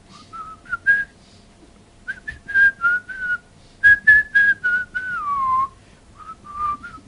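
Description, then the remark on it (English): A person whistles a cheerful, bouncy tune in short melodic phrases with brief pauses, ending on a gliding downward note; clear, with no talking. “That is, you will wash the shirt, iron it with whistling.”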